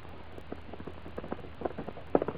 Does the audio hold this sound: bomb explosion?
no